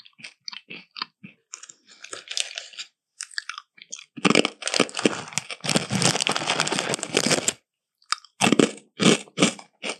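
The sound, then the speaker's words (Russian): Crunching of dry rusks: a series of crisp, snapping bites, then a long loud stretch of dense grinding chewing, followed by a few more sharp crunches, with no talking. “Это чем-то похоже на чипсы, но не настолько грубый звук, помягче. Но это можно есть рядышком.”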